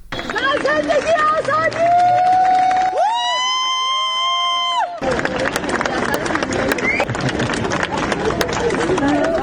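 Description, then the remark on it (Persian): A dense crowd at Tehran airport cheers and claps loudly throughout, welcoming filmmaker Jafar Panahi on his arrival two days after he won the Cannes Palme d'Or, with many voices shouting at once and a sustained chanted tone rising over the din midway. “بر اساس ویدیوهایی منتشر شده در شبکه‌های اجتماعی، جعفر پناهی 2 روز پس از دریافت جایزه نخل طلای جشنواره فیلم کن، بامداد امروز وارد فرودگاه تهران شد و مورد تشویق مردم حاضر در آنجا قرار گرفت.”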